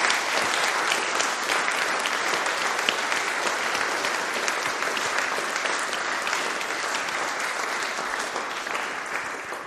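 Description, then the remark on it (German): Sustained applause from an audience thanking volunteers for their work, a dense wash of many hands clapping steadily at a fairly loud level for the whole stretch, with no voices standing out. “Das ist, glaube ich, nochmal ein grosser Applaus für euch.”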